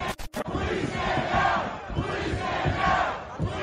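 A large mob of protesters roars and shouts continuously outside the Capitol, many voices blending into a loud, dense wall of yelling with surging chants rising and falling.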